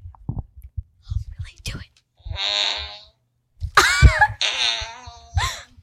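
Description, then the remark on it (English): Electronic fart noises play from a phone app: a few short spluttering blips, then several longer, buzzy, wavering blasts with a raspy, pitch-bending tone, fairly loud and with no talking over them. “If only I had a fart machine too.”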